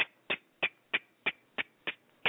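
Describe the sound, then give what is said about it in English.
A clock ticks steadily: eight sharp, bright clicks in an even, fairly quick rhythm, each one crisp and short, with nothing else audible between them and no voices. “You hear that clock?”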